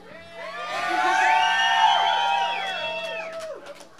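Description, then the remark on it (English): A pub crowd at the Grape Street Pub in Manayunk yells and cheers together, many voices rising into a loud, sustained roar that swells for a few seconds and then tapers off, lively. “I don't think you had to yell, that wasn't in the rules.”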